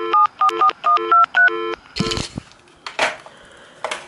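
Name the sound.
cordless phone keypad tones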